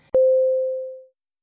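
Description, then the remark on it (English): A single clear chime marking the end of a segment in a consecutive interpreting exercise rings out with a sharp attack, holding one steady mid-pitched tone that fades smoothly over about a second into silence. “A chime will sound at the end of each segment.”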